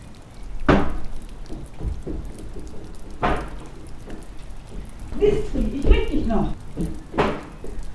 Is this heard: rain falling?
yes